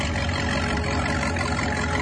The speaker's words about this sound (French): Tu vas couper le moteur bientôt, attention hein.